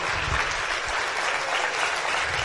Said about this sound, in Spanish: Y démele un fuerte aplauso para recibirla acá en tarima